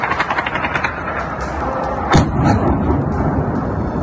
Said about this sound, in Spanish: El sonido de los bombardeos y disparos entre Israel y Hamás.